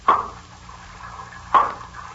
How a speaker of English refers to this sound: They aren't very heavy blows, Jack. You can't swing an axe with any force underwater. Just the same, you've broken the lock, Uncle Jim.